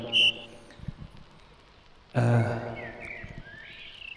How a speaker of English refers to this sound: We've got the birds in the background.